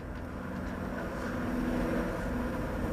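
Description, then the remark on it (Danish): A propeller airplane drones steadily overhead as it flies over a city, heard from a rooftop: a loud, continuous low hum with a faint tonal whine that swells slightly as it passes, with no voices. “Vi står på taget oven på Radio 24/7 og lytter til en flyver, der passerer forbi lige her i øjeblikket.”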